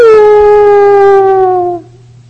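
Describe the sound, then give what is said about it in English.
A single wolf howl at night, loud, holding one long, clear note that slowly sinks in pitch for nearly two seconds before cutting off, leaving a faint low hum behind. “Like a wolf when he, in night, trying to focus, to find, to destroy or catch his, you know, object, he will make voice.”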